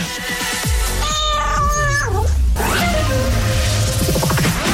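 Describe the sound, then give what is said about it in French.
Many cats of all breeds, including Siamese and alley cats, meow and yowl loudly, drawn-out wavering cries overlapping one another in a continuous chorus of caterwauling, with no talking. “Des siamois, il y a toutes les races. Des chats de goutier.”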